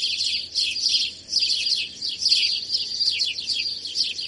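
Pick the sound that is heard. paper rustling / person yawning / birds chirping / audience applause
birds chirping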